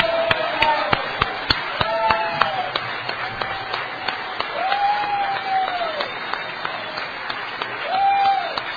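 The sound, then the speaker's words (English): A crowd applauds three speakers in a standing ovation: steady, dense overlapping claps with a few sharp, louder claps standing out, plus scattered cheers and whoops rising over the crowd. “Let's give all three of these speakers a wonderful round of applause.”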